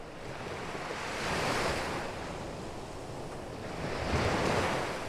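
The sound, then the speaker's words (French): Ocean waves wash onto the shore of the Alexandria coast in a steady roar, swelling twice as breakers roll in and recede, with a faint breath of wind and no voices. “La mélodie des vagues a quelque chose d'apaisant.”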